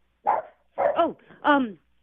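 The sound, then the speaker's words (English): A dog barks three times in quick succession, fairly loud. The barks are sharp and slightly yelping, with brief pauses between them and no one talking over them. “We love dogs.”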